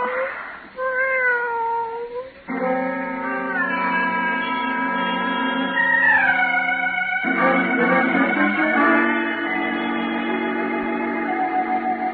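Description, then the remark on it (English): A friendly cat named Shushu meows loudly, starting with a few short rising cries and then long, drawn-out yowling wails that continue without pause. No one speaks. “Nothing more than a friendly cat named Shushu.”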